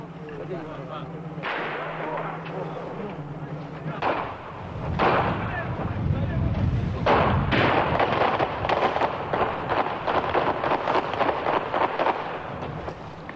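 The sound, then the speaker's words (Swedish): Chaotic bursts of gunfire crack repeatedly as a Russian anti-terrorist force storms a hostage-taking, sharp shots and rapid volleys overlapping with loud booms and commotion, with voices faintly audible underneath as the shooting intensifies. “Antiterroriststyrkan anfaller, 28-åringen dödas, Saveljev skottskadas, troligen skjuten av sina egna.”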